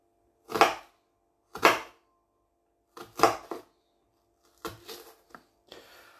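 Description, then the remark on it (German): A knife chops an onion, first one half and then the other, into small pieces on a board with sharp, crisp strikes, a few single and some in quick pairs, at an uneven pace, the later cuts softer. No one speaks. “Erste Hälfte hier klein und die zweite gleich hinterher.”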